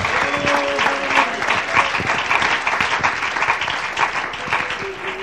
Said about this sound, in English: Clap your hands and thank him right now.